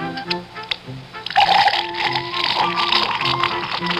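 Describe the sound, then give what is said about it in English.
Budweiser beer pours into a glass, forming a head of foam, a steady fizzing, splashing rush that starts after a second and continues to the end, with soft background music underneath. “Now take that wonderful Budweiser Head of Foam, for instance.”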